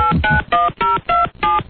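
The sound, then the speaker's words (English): About six quick touch-tone beeps as a phone number is dialed to call Ken, each a short steady two-tone chirp in an even rhythm, clear with a thin, phone-line quality and no talking. “Maybe I'll just call Ken.”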